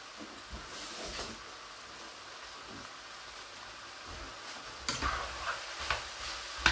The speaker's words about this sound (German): und dann einfach mit dem Messer klein schneiden und mit in die Soße geben. Und unterrühren.